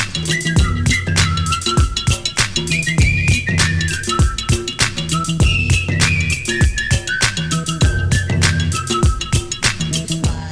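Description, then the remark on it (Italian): A cheerful whistled tune carries the melody over a busy, upbeat music backing with steady drums and bass, loud throughout, with no one talking. “Fischiettando per le vie della città, vestita a festa per le feste di Natale, inizia l'avventura di Cagliari Social Bus”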